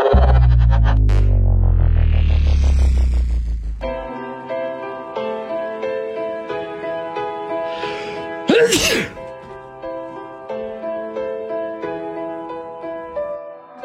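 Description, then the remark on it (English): On a Lansing sports radio show on 1240 WJIM, a single sharp sneeze bursts out partway through, cutting across steady upbeat music that opens with a heavy, booming bass sweep; no one speaks. “I'm having some sort of, I don't know if it's allergies or what.”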